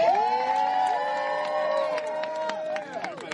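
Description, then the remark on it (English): A crowd cheers and whoops loudly with sustained, overlapping voices, while scattered hand claps pop through the noise for a few seconds. “Y'all clap one more time for my school son”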